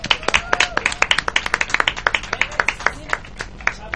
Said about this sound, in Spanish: Muy bien, un aplauso.